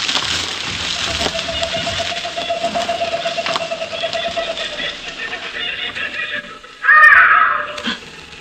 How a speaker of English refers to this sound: Those are only birds.